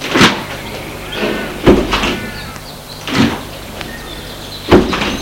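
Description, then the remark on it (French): Car doors open and shut in a quick series as people get out of a car, four solid thunks spaced about a second and a half apart, with faint rustling and movement in between. “Ils sortent de voiture.”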